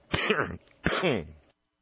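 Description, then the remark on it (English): A person clears their throat twice in quick succession, two gravelly, rasping bursts, fairly loud, with a short pause between them and no talking. “That's what the cough button's for, daggummit.”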